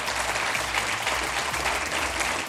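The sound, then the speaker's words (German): Loud, dense audience applause for the people on stage at the end of an hour-long event, a steady wash of many hands clapping at once with no breaks and no voices over it. “Vielleicht gibt es jetzt einmal einen lauten Applaus für alle, die hier auf der Bühne sind.”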